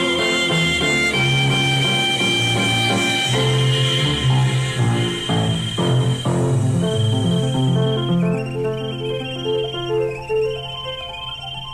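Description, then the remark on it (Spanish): A cheerful children's song plays loudly and steadily, its bouncy melody carried by bright, tuneful instruments, with high chirping tones running through it and no one talking over it. “¿Ya adivinaron cómo se llama esa canción?”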